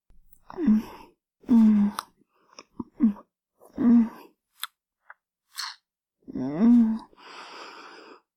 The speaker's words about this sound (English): My lips gently kissing your tip. Wrapping around your head. Sucking and slurping.